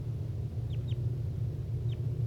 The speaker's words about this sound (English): That was bird 6-1.